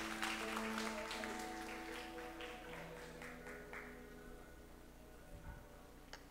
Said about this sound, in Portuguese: Aplauda o Senhor, pode sentar.